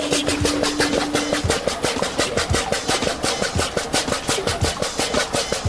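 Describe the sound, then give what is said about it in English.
A water pump, being tested by a team building a torpedo to measure its flow rate, runs with a steady, rapid chugging pulse, several beats per second, over a broad mechanical whir; a low hum sits underneath for the first second or so. No one speaks. “The law dogs need to work out how quickly their pump can, well, pump.”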